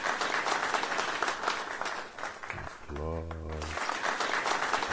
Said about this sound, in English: Applause for this great talk. Okay. Thank you very much for the talk.